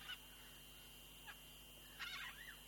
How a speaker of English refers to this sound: Oh, the sound of these birds is very beautiful. I can recognize some of these sounds.